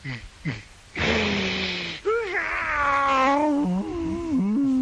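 A man cries and wails loudly: a couple of short sobbing breaths, a rushing gasp, then a long, wavering, drawn-out howl that breaks into shaky sobs.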